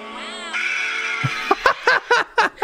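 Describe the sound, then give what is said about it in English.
A shrill, processed cartoon robot voice lets out a long sustained scream, then breaks into a string of short, choppy yelping bursts, loud. “It is the new motion meme with G1 Starscream. It's just the scream.”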